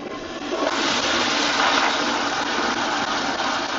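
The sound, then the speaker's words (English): A loud, sustained roar of rushing water from many toilets flushing at once in restrooms throughout a new arena in Fort Worth, a test flush by Trimble Tech senior class members, rising quickly after a brief quiet start and holding a dense, hissing wash without any voices. “they flushed the toilets all at once.”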